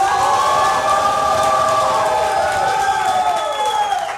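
An audience claps and cheers in a dense, steady wash of noise for about four seconds, with sustained whoops or whistles gliding above the crowd, voting for a contestant by applause.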